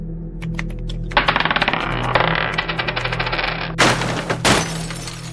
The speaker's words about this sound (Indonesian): Namun, suara benda jatuh dan pecah kembali memecah keheningan.